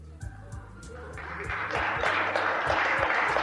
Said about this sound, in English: Stop clapping!